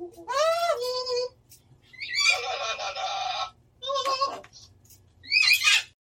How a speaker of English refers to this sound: Yes, you heard it correctly. Those are the squawks of two parrots talking to each other via video call. They're taking part in a study into the way that animals could use the internet to connect with one another, much like we do.